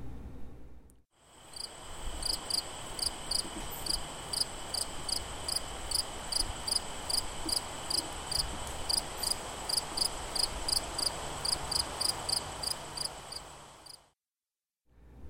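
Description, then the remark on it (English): A common field cricket chirps steadily in a field in Royalston, Massachusetts, recorded September 19, 2017; its shrill pulsed trills repeat at a regular rhythm over a soft, constant background hiss, with no voices. “This is a common field cricket, recorded September 19, 2017, in a field a few miles south of my house, down on Royalston, Mass.”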